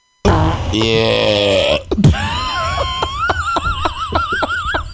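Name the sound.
loud burp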